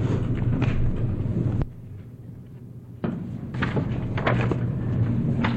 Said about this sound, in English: I'm trying to get the chair to move in the proper direction.